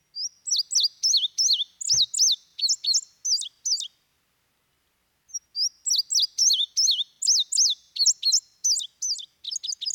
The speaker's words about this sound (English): There it is, the indigo bunting. You can sometimes see them on your goldfinch feeders because they eat the same kind of seed, the Niger thistle seed.